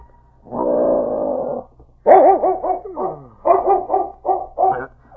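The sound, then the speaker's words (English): A huge dog in a cabin, after a light snowfall, lets out a long, steady whine, then a run of quick, wavering yelps and whimpers, fairly loud, with no one talking. “Czar! Czar, what's wrong with you, fella? Did you hear something, boy?”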